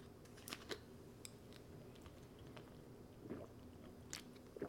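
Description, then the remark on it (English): Quiet sipping of water: a handful of soft wet mouth clicks and slurps scattered over a few seconds, with a swallow in between and no talking. “I need another sip of water, though, real quick.”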